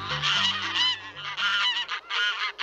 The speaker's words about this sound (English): Is any bird more ordinary, more unlikely to draw praise than a barnyard goose honking and waddling about the farm?